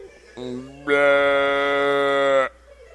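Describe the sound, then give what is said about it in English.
A person imitates a cow's moo, starting with a short low hum and then swelling into one loud, drawn-out moo that lasts over a second and a half before cutting off. “Because are you allowed to moo at women who publicly breastfeed?”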